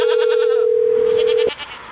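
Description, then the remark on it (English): A loud goat bleat, one sustained wavering cry lasting about a second and a half before cutting off abruptly, with no talking over it. “I have a goat.”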